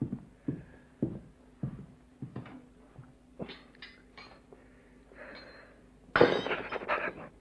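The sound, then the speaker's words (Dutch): A series of dull knocks and light clinks as drinking glasses are fetched, then a sudden loud crash as a drinking glass hits the floor and shatters, with fragments scattering for a moment afterward. “Ik pak wel een ander glas. Ik ruim straks de schrijver wel op.”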